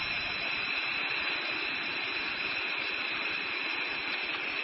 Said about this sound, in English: It says to give it a blow and you're going to hear a tone.